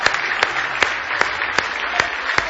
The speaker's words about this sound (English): Somebody say hallelujah. Somebody say hallelujah. If you love him, give him a hand clap of praise tonight.